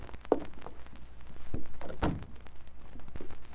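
household object, door opening

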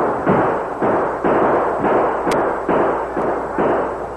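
sound effect, gunfire

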